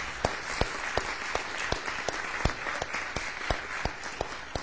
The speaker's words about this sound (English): Let us greet these folks with an applause of appreciation this morning.